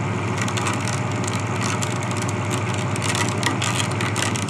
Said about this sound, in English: Okay, so the dredger is coming back in, the boat's speeding up